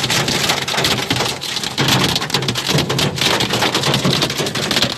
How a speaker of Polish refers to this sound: W naszym przeglądzie teraz o tym, że po wielu dniach męczących upałów pojawiły się gwałtowne burze, lokalnie także z opadami gradu, które wyrządziły spore straty.